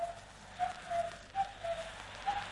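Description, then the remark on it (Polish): A mechanical cuckoo call, the interval signal of Polskie Radio Wilno (Polish Radio Vilnius), repeats its short, two-note pattern several times, with a pure mid-pitched tone over a steady hiss of crackly background noise. It is made by a box-shaped device with two bellows and imitates the cuckoos of the Vilnius forests. “Głos kukułki był aluzją do kukułek w tych lasach wileńskich.”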